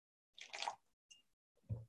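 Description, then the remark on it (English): A short splash of water being poured into a slightly dry dough mixture, then a brief drip and a soft wet squish, quiet with no talking. “It's a teeny bit dry, so we're going to add a little bit more water to that.”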